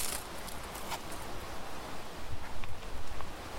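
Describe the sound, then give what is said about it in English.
Footsteps crunch and rustle through dry leaves on a forest floor at Mount Gosford in southeastern Quebec, a steady walking rhythm that grows a little louder and more distinct toward the end, with no voices. “For instance, we can get a good idea of changes in terrain and landscape by listening to footsteps.”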